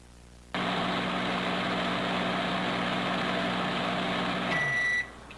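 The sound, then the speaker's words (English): A microwave oven in an office hums steadily for several seconds, then a bright beep tone sounds as the steady whir winds down and stops. “Oh, he's using the microwave. I was confused. I was like, what was that noise?”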